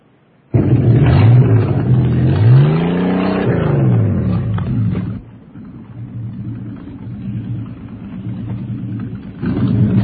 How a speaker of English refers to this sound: There are four things you could hear on the boat. The waves, the engines, an occasional muffled prayer. The sound of 50 guys, though, heaving their guts out.